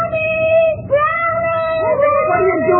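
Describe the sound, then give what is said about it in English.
A dog whimpers in a long, high, nasal whine that bends and wavers in pitch, fairly loud, with a low murmur of background noise underneath. “The dog! What about the dog?”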